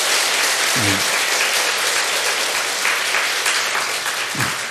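An audience applauds steadily for several seconds, a dense wash of clapping at a fairly loud, even level, with a couple of brief voiced shouts rising out of it.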